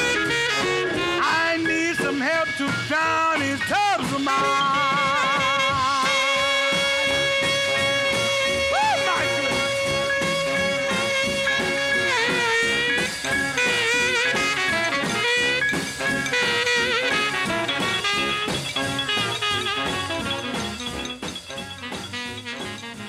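A loud, dense 1950s rhythm and blues record, its tenor saxophone holding long, wavering notes over a driving band, staying at full volume throughout before easing slightly at the end.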